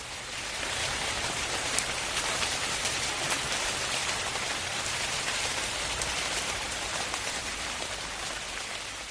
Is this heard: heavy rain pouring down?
yes